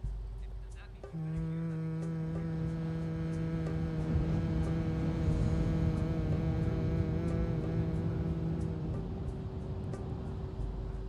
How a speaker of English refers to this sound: I'd like to invite you to make a humming sound, starting in your chest and allowing it to vibrate through your body. It sounds like this.